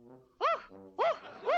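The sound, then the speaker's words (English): A hypnotized woman imitates a big dog, giving three loud, yelping barks with softer, lower whining sounds between them, alone. “And now I'm gonna make her bark like a dog.”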